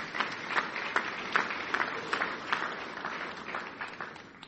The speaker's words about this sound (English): So I'm going to invite her up here. You guys can give her a round of applause.